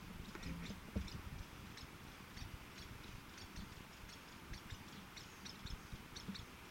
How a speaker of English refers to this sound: two Lewis woodpeckers chattering back and forth to one another.